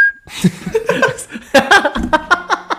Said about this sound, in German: Dafür ist das Pfeifen eigentlich auch viel zu kurz.